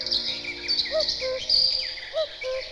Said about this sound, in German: Die Nachtigall flötet, die Wachtel punktiert in der Oboe und der Kuckuck unverkennbar mit seiner fallenden Terz.